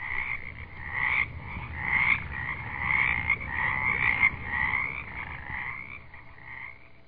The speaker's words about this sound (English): And you can fall asleep to those frogs every night like we do.